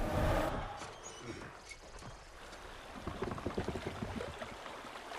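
River water flows steadily with a broad, rushing wash as a tree trunk floats on the river, joined in the second half by a run of soft knocks and splashes. No one speaks.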